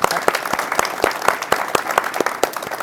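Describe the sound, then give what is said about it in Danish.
A round of audience applause: many hands clapping in a dense, steady patter with sharp individual claps standing out roughly every quarter second, fairly loud throughout, with no talking. “Og så går vi lidt tilbage i tiden, og vi giver en klapsalve.”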